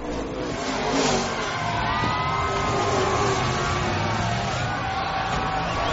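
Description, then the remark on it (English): Loud, steady engine roar of race cars at a car race fills the whole stretch, with pitch sweeping up and down as the cars rev and accelerate, several motors overlapping at once with no voices. “今天去看赛车”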